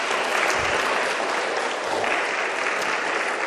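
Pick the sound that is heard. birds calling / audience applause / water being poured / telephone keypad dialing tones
audience applause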